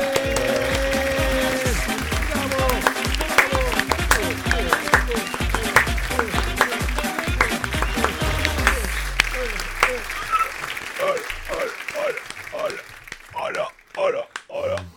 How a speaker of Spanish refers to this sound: Te tengo focas y todo, tío, aquí aplaudiendo.